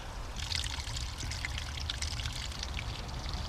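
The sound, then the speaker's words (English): Water trickles and splashes steadily over rocks in a shallow stream coming from the fells, with not much water flowing, a continuous bubbling flow with bright spattering detail, with no voices. “Yeah, there's not an awful lot of water coming over here at the moment”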